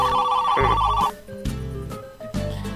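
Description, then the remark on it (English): A telephone rings with a loud, electronic tone that repeats in short bursts, clear, with no one talking over it. “we got a caller?”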